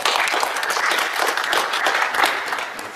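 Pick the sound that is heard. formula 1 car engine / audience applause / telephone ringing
audience applause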